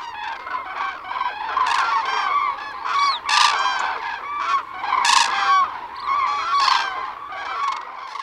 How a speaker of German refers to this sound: Der Durchzug tausender von Kranichen.